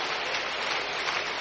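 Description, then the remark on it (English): Steady, dense applause from a crowd clapping for Jesus, the many overlapping claps blending into an even hiss-like roar that holds at a constant level with no voices. “Keep clapping, keep clapping. You are clapping for Jesus.”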